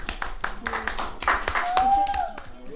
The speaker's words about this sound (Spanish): Un aplauso para la mamá.